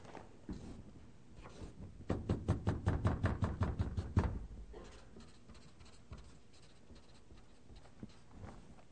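A marker squeaks and scratches across paper as a woman draws a picture, in a quick burst of rhythmic back-and-forth strokes, fairly loud, then softer scattered scribbles and taps follow.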